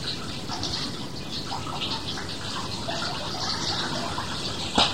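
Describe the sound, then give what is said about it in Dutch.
Water runs steadily from a tap in a continuous, fairly loud splashing hiss, unbroken for the whole stretch, with a brief brighter splash near the end. “Ze moeten hem onder de kraan houden, dat gaat een stuk maar.”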